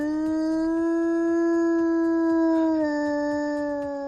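A wolf howls in one long, unbroken note, loud, holding steady before dipping slightly in pitch near the end, with faint rhythmic thumps low in the background.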